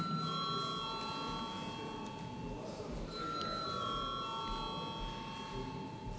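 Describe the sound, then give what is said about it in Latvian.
A parliamentary session bell, called for before a secret-ballot vote on appointing a court chair, rings continuously for several seconds, a steady electric ringing tone that stays even throughout, with a faint murmur of room noise underneath. “Paldies, lūdzu zvanu.”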